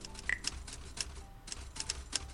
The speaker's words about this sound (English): Let's go to the typewriter.